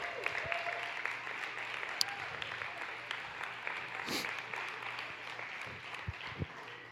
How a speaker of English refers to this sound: Come on up, let's clap for them.